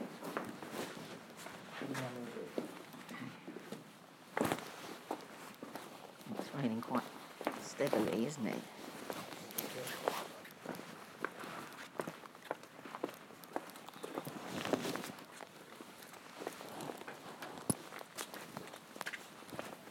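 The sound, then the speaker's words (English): Footsteps walk steadily through the rain, each step a soft wet slap over a constant hiss of falling water, while voices murmur now and then in the background. “It's quite nice walking in the rain, really.”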